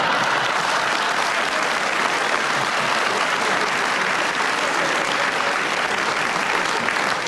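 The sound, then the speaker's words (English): A studio audience of a panel game applauds steadily for several seconds for Peter Jones's correct challenge with 0.5 seconds to go on the subject of rhymes, a dense, even clatter of many hands clapping with no talking over it. “Peter, you got in with a round of applause and a correct challenge with 0.5 seconds to go on rhymes starting now.”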